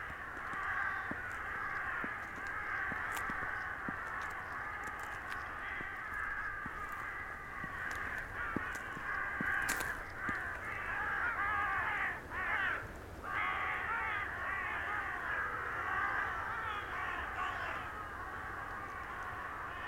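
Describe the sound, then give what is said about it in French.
A large flock of travelling crows caws continuously, their harsh overlapping calls forming a dense, steady chorus with no pauses. No one speaks. “de sapinières, de corbeaux voyageurs qui vous saluent.”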